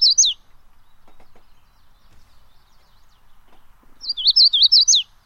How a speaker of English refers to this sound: I'm going to guess a magnolia warbler. Nailed it! Absolutely. It is the magnolia warbler,